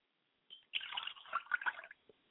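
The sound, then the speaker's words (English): Liquid is poured as a libation to the mother spirit Yamanja in a steady, splashy stream for about a second, with a few bright drips and gurgles, then it stops and a last soft drip falls. No one speaks. “So let me pour libation to my mother spirit, and my mother spirit is Yamanja, and I say Ashe.”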